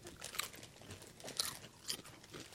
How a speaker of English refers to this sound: Make sure to crunch into the mic. These are Tato cheese and onion.